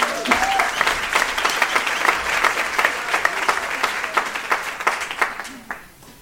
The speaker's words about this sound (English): Now you can clap for these great girls.